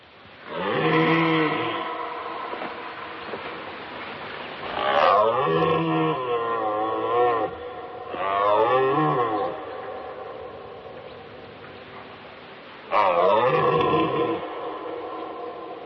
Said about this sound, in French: l'illustration sonore, j'ai l'impression que j'ai traité de Chewbacca dans Star Wars, mais effectivement, c'est le brame du cerf